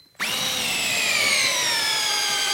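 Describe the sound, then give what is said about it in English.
A power drill whirs to life abruptly and runs loud for a couple of seconds, its motor pitch sagging slightly as it bores into a hay bale made from failed crops to take samples to test for nitrates. “He drills into a bale to get samples to test for nitrates.”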